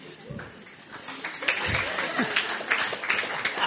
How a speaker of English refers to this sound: so a big round of applause for him for that.